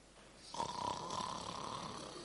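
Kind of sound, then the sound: vocal imitation, imitated snoring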